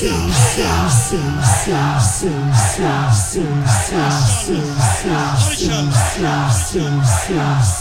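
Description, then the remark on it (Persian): A crowd shouts the war cry 'Heyda' in unison, the same short phrase repeated rhythmically about every half second, loud, with no pauses throughout. “اینجا باید اینو فریاد بزنید هیدا”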